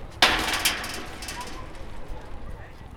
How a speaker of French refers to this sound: Enregistrement porte.